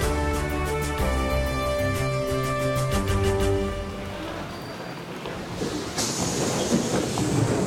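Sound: train rolling on rails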